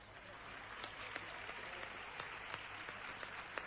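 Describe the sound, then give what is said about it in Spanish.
An audience applauds a prize draw winner who received boots and has a photo taken with the player, many hands clapping into a dense, even patter of moderate loudness with a few sharper claps standing out, continuing for several seconds without any talking. “Un aplauso, ¿no?”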